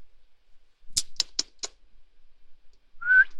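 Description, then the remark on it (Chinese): Four quick, sharp clicks in a row, then after a pause a person gives one short, clear whistle that rises slightly in pitch. No one speaks. “你吹什么口哨？”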